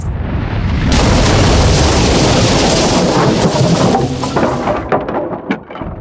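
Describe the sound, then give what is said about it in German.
A single powerful shot from El Cristiano, a huge war cannon fired on the battlefield, bursts in suddenly and loud, its deep roaring rumble filling the air for several seconds before breaking up and fading, with no voices. “Das war ein Schuss vom Cristiano!”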